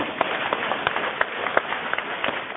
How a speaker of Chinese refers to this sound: 现在明白了吗？鼓掌啊！